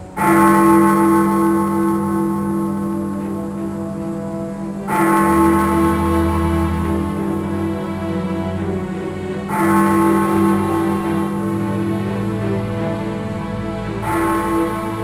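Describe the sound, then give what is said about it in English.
The deep bell of the Gotham Square clock tower tolls slowly at midnight, four loud strikes spaced about five seconds apart, each one ringing out with a long, humming decay into the next. No voices. “When the clock strikes 12, do I get a little kiss?”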